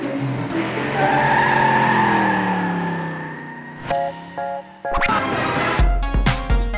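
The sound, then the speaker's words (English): NASCAR race cars skid around a track making tight turns, with long, wavering tire squeals that slide in pitch for several seconds, then sharp screeches and clattering bursts follow near the end, loud with no talking. “train to safely drive around a track, making tight turns and avoiding the other cars for a long time.”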